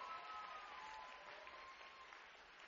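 A church audience clapping hands in sustained applause for a dance performed by a group of women, a dense steady patter of many claps with no break, even from start to finish.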